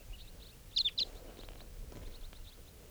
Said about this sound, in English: Start recording. The birds are flying around. They may be coming back here.